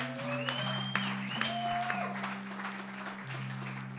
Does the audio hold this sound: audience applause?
yes